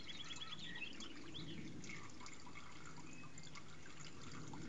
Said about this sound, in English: A few birds twittering.